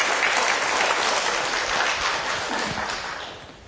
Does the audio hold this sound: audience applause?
yes